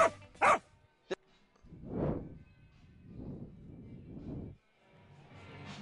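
Several dogs bark in quick succession at the start, followed by a run of lower, drawn-out howling barks that rise and fade, moderately loud with no talking.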